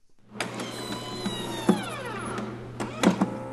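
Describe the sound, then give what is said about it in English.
A small electric pump whirs steadily as the arm cuff of a white plastic blood pressure machine inflates on a state library technician's arm, its motor pitch shifting slightly, with a few soft mechanical clicks; the machine sits on a table just inside the back door of the Montana Capitol building. Reading: 144 over 72. “A white plastic blood pressure machine sits on a table just inside the back door of the Montana Capitol building.”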